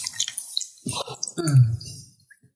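Water is poured into a container in a gurgling, splashing stream lasting over a second, its tone rising as the vessel fills, with a few soft drips and clinks before it.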